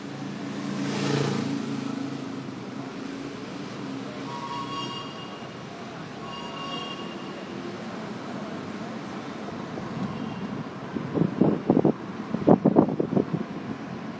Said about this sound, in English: Only then will you be able to ensure that you hear the noise of these city streets.